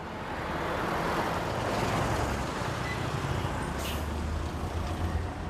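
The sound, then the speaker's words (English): Steady engine rumble and road noise inside a moving city bus in Kigali, Rwanda, with a brief high hiss of air brakes partway through; no one speaks. “taking a bus ride in Rwanda's capital Kigali has never been so easy.”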